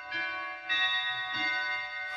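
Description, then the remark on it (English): A clock chimes the half hour with a short run of about four bell strikes at an even pace, each ringing tone overlapping the next and sustaining clearly, with no voices. “Half past.”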